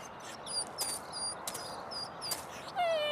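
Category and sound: animal, dogs whimpering and yipping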